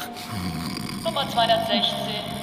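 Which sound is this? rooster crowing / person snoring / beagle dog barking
person snoring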